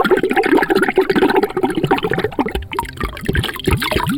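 Liquid gurgles and bubbles steadily, a continuous rush of water breaking into distinct glugging bubbles toward the end, fairly loud with no voices.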